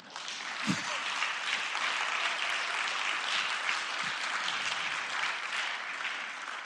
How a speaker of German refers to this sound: Fetten Applaus.